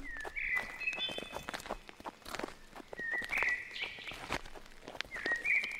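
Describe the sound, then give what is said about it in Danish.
Quick, steady footsteps of a person running ahead along a mountain path, the King's Route, to check the way; fairly loud, with high whistling bird chirps coming and going in the background. “Jeg løber lige frem og ser, om vi er på rette vej.”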